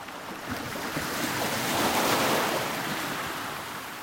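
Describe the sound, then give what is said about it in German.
A single wave rushes up and breaks on a beach, its broad hissing roar swelling to a peak midway before washing back, with light wind in the background and no voices. “Ob die Wellen am Strand ein Sinnbild für Lebensübergänge sein könnten, habe ich mich gefragt.”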